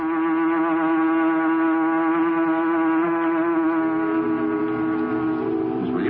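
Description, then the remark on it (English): A loud, steady factory whistle blows continuously for several seconds, its sustained harmonic tone wavering slightly near the end, with no voices over it. “Why is the whistle blowing?”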